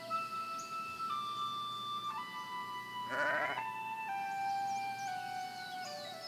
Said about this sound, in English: As you walk along, you notice a herd of sheep in the distance.